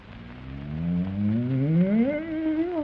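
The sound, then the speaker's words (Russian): An old bull lets out one long, loud, deep moo that swells and slowly rises in pitch over about three seconds, heard alone with no talking. “Тут подошел старый бык, узнал, в чем дело, и промычал.”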